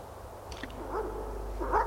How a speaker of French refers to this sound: Des chiens courent à eux et aboient méchamment.